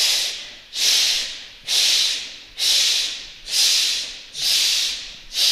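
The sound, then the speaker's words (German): Loud, forceful breathing repeated in a steady rhythm as a breathing exercise, about six rough, airy breaths each swelling and cutting off sharply, with no talking. “dass man halt genug Luft hat, weil wenn man nur so in den Brustkorb reinatmet, dann wird man auch ziemlich schnell kurz atmen”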